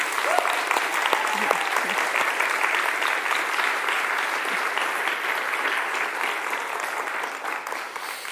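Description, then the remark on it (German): An audience claps steadily and loudly for several seconds in honour of someone's efforts for the local community, a dense wash of many hands with no pauses, tapering only slightly toward the end. “Und ich finde, dass wir auch in Abwesenheit einen kräftigen Applaus für so viel Tatkraft für unsere Gemeinde spenden sollten.”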